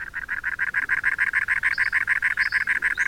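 A cactus wren gives its harsh churring call, a rapid, steady run of scratchy notes that continues without pause, loud, with no other sounds or voices.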